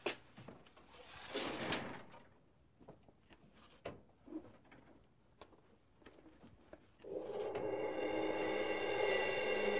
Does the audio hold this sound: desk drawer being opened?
yes